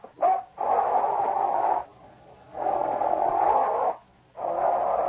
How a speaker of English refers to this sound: Sergeant, don't go near that dog. He won't hurt me. He knows they're not afraid of him. Get back, Lobo.